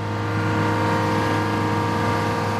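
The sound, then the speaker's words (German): The diesel engine of a seismic vibration truck, whose plates send fine vibrations into the ground to survey the subsurface in St. Gallen, runs at a steady, loud idle, its deep droning rumble layered with constant humming tones and no pauses or speech throughout. “Lärm macht dabei vor allem den Dieselmotor.”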